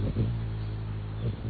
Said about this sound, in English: This is Bird Note. We're hearing the sound of a male hummingbird.